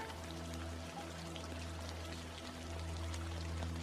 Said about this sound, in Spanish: Deja que el sonido de la lluvia te limpie por completo.